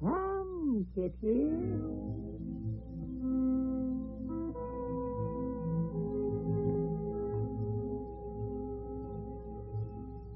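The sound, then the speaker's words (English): A couple of high, wavering, fairly loud kitten meows at the very start, followed by a steady, humming tonal background that carries on to the end. “I never saw a more pitiful kitten.”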